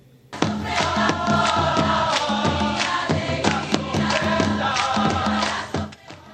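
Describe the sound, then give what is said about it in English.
A large crowd at World Youth Day 2019 in Panama City roars and cheers loudly and steadily for about six seconds, with sustained voices chanting and sharp rhythmic hits or claps cutting through, before fading at the end. “That is footage from the most recent World Youth Day in 2019 in Panama City.”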